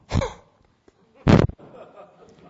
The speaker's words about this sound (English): I blow my nose, you can hear it.